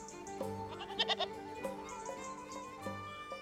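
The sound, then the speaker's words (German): Several goats grazing by a castle ruin above the Grotto of the Nativity, the remains of King David's tower, bleat in short, wavering cries, a few overlapping, outdoors. No one speaks. “Da grasen ein paar Ziegen bei der Ruine, als wäre nichts passiert.”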